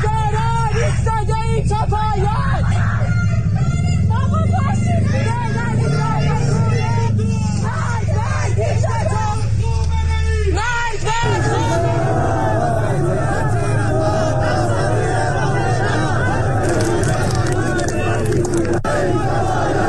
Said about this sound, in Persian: بنابر ویدیوهای دریافتی، گروهی از مردم اصفهان با وجود حضور گسترده نیروهای حکومتی راهپیمایی و تظاهرات کرده شعارهای ضد حکومتی سر زدند. جمهوری اعدامی، بوق بزن، خامنه ای بی ریشه، خیزش ادامه داره.